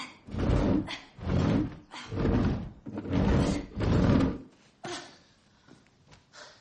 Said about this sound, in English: Downstairs, she pushes a large gray sofa across the room in place of the missing front door.